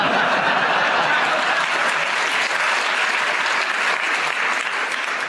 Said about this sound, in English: I'll give you a bonus for that last one. You got a round of applause.